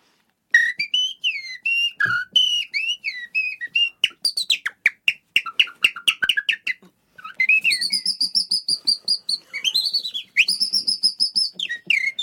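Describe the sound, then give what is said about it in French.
A person whistles an imitation of common blackbird song, a loud run of fluting warbles, rapid trills and sharp chirping notes in varied phrases with brief pauses, and no talking. “Et grâce à l'oiseau emblématique de mon père, le premier oiseau que j'ai imité, l'oiseau préféré de mon père, le merle noir.”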